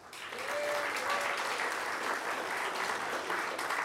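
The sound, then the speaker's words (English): An audience at a talk breaks into steady applause, a dense wash of many hands clapping that swells quickly and holds at an even level, with a few faint whoops and voices mixed into the clapping. “So, who believes, round of applause, that obtaining credentials for an NFC toy is legal and wants to assert their rights to do so?”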